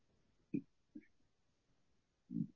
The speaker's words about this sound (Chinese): 哦，刚刚有打嗝。